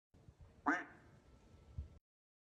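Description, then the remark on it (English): A single short, nasal duck quack, played as a Tesla car's lock sound, sounds clearly, followed by a faint low thump and quiet background noise. “Quack.”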